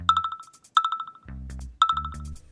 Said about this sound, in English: Oh, look, so many notifications.